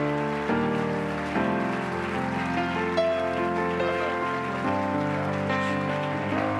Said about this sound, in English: If you're thankful for a great leader in the Wisconsin district, would you clap your hands